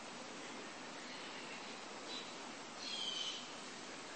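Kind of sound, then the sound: bird, birds calling outside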